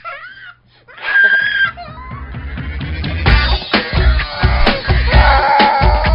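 A person screams and wails loudly in long, drawn-out cries over a steady, thumping rhythmic backing that grows denser and louder toward the end.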